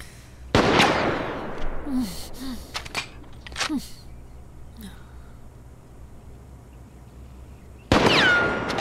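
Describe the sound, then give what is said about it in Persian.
Two loud, sharp gunshots fired at tin cans roughly seven seconds apart, with fainter clicks and small thuds in between; the second blast is followed by a brief metallic ring as a bullet strikes a tin can. “ولی خوشبختانه کسی که قبلا اینجا زندگی میکرده کلی گلوله و مهمات جنگی احتکار کرده. قوطی ها. تو داری قوطی ها رو میزنی، میدونی؟”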